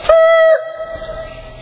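A boy's new whistle, blown as loud as he can, shrieks in a loud, steady, high blast for about half a second, then its tone carries on more quietly and trails off, with no talking over it.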